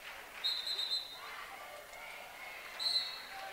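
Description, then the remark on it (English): A referee's whistle blows two sharp, shrill blasts, the first about half a second long and the second shorter, calling an equipment timeout during a basketball game between Saugatuck and Black River, over a murmuring gym crowd with faint voices. “As the referee's blowing the whistle for a equipment timeout,”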